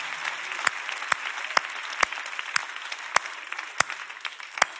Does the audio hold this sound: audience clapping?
yes